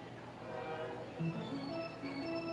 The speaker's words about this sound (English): And there you hear a actual train, not the kids' train, making noises. Although that would be impressive if that little train did make that noise.